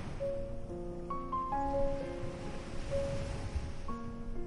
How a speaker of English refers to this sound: Only the sheltered cove, the quiet shoreline, and the steady sound of gentle waves.